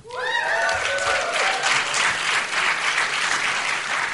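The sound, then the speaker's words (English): An audience bursts into loud, steady applause after Elizabeth Warren is picked as a candidate. A few rising whoops and cheers ring out at the start, then the clapping carries on evenly for several seconds. “More applause than the Booker pick, I'll note.”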